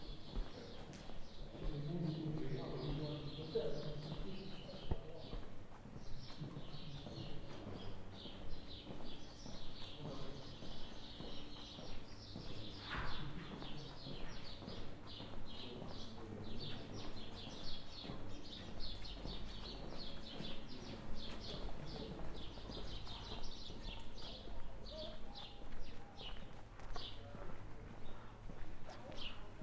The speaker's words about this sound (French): cour du roi dauphin, nos pas se perdent sous les voûtes.